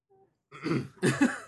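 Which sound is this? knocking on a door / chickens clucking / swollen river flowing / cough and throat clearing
cough and throat clearing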